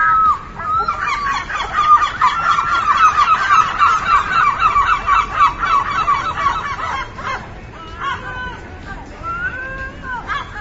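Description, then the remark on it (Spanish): A loud chorus of yellow-legged gulls shrieking war-cry calls in rapid, overlapping cries for several seconds, then thinning out to a few scattered calls over a noisy background. “Y nos fijamos en el Twitter del ornitólogo Antonio Sandoval, que dobla a lo 300 la película Este grito de guerra de gaviotas.”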